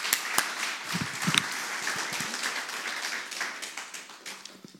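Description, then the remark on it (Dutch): A crowd applauds the people who organised the event and played, many hands clapping in a dense, continuous wash of sound with a few sharper individual claps standing out, holding at a moderate level before easing slightly. “Zullen we even een applaus geven voor al de mensen die dit georganiseerd hebben en ook zo geweldig hebben gespeeld.”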